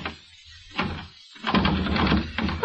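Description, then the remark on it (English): A bolted door is rattled and pulled by its doorknob, with a few dull thumps followed by a longer stretch of louder jiggling and knocking as it refuses to open. No one speaks. “The door's bolted, you soak.”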